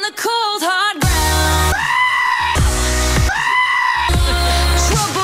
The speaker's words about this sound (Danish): Det er rigtigt, men det er simpelthen det er den rigtige gedelyd. Det er den originale, og det andet... Det er remixet.